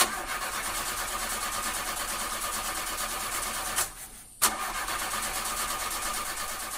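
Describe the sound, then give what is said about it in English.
A car engine with a fading battery cranks over and over on a freezing day in a steady, labored churn, cuts out for a brief moment, then starts grinding again without catching. Fairly loud, with no voices. “The dreadful sound of a fading car battery on a freezing day is something that many people have been hearing during this recent cold spell.”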